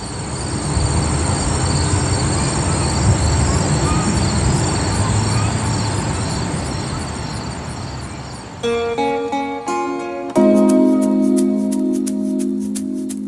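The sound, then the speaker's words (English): Outdoor ambience of Mill River Park in Stamford, Connecticut: a steady, broad wash of background rumble, then a passing train adds loud, sustained tonal squeals and drones over the last few seconds. “It's Mill River Park in Stamford, Connecticut.”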